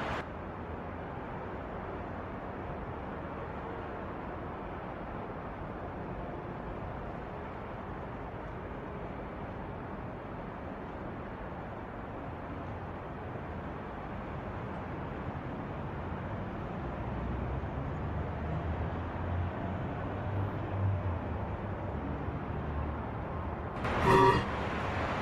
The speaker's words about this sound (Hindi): अब चलो भी, कितना ट्रैफिक है। या खुदा, ओह, मुझे हमेशा देर हो जाती है। चलो चलो आगे, बहुत देर हो गई है।